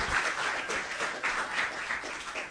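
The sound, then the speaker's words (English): An audience claps their hands for the speaker's wife in steady, sustained applause, a dense crackle of many overlapping claps at moderate loudness with no voices standing out. “Give my wife a hand clap.”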